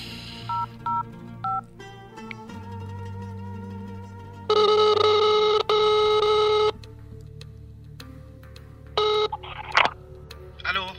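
A short run of dual-tone keypad beeps as a phone number is dialed to call a brother, followed by a loud, steady electronic ringing tone lasting about two seconds, then a few more brief tones and clicks.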